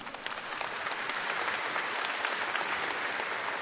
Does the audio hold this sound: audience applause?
yes